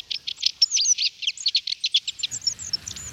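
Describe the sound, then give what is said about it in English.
Long-tailed tit calls: a rapid, continuous stream of high, thin chirping notes, about fifteen in three seconds, clear, with faint low background rumble toward the end. “Bottle Tit, Long-tailed Chittering, Bush Oven, Oven Bird, and Milthrum. Nothing in Britain has more names than the Flying Lollipop.”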